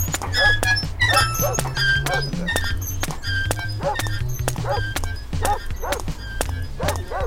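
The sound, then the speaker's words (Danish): In an audio video game, a dog barks repeatedly at a steady pace over rhythmic footsteps of the player walking toward it and a low droning background, all fairly loud, with no one talking. “Vi går lige over mod hunden her.”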